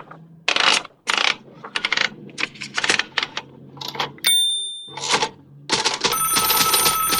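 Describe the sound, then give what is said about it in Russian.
Metallic clattering bursts, a brief electronic tone, then a loud, continuous ringing of a telephone bell that runs to the end. No voices. “У меня зазвонил телефон.”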